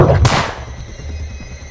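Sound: gunfire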